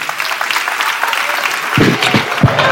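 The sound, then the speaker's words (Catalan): A crowd claps steadily, a dense rattle of many hands filling the whole clip, with a few louder, sharper claps standing out toward the end. “Jo el que sí que demano és aquest fort aplaudiment”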